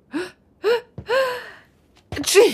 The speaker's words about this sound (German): Dein heutiger Expeditionsleiter muss übrigens auch ziemlich oft niesen.